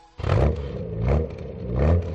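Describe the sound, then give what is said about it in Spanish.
A car engine strains and revs in three heavy surges, rising and easing each time, loud with a rough, labored growl and no voices. “A tu coche también le cuesta la cuesta de enero.”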